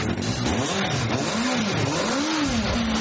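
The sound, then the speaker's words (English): A loud home-built jet engine runs steadily, its pitch rising and falling in repeated revs over a constant roar of mechanical noise, with no voices. “these jet jockeys have got their engine working.”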